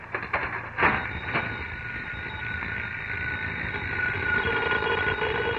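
A telephone rings in one long, unbroken electric peal, a steady bright tone that holds its pitch throughout, with a few sharp clicks at the start and no voices.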